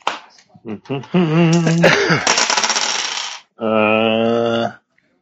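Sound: dice being rolled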